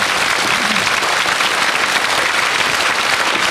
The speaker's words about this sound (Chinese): 各位菩萨，咱们啊再多以啊最热烈的掌声，告诉供养者阿弥陀佛。